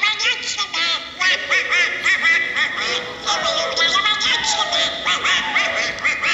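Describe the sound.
A raspy, squawking Donald Duck cartoon voice chatters nonstop in quacking bursts, loud, sounding like garbled, excited speech with no clear words.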